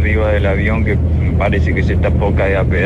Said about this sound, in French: Là je suis dans l'avion et on dirait qu'il est sur le point de tomber en morceaux.